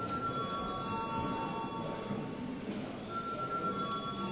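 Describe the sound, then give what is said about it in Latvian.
A continuous electric bell rings steadily for about four seconds in a parliament before deputies vote on adopting a bill in its third reading, a harsh metallic buzzing tone with no pauses and no voices over it. “Lūdzu zvanu.”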